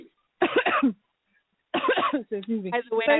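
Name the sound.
cough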